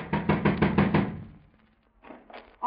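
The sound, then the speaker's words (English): Police officers knock loudly and rapidly on the door of suspects' apartment in Oakland, about six sharp raps in quick succession, then a pause before a few fainter knocks follow. “Better try knocking,”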